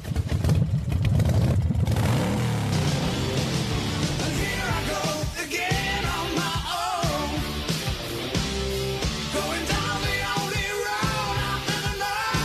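motorcycle engine revving

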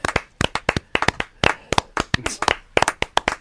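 hand clapping

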